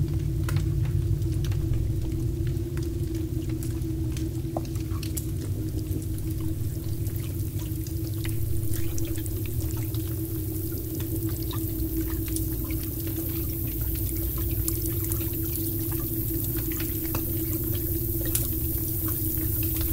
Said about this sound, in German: Also unverkennbar war hier Wasser zu hören, ich glaube aber auch ein Tier, ich bin mir nicht ganz sicher.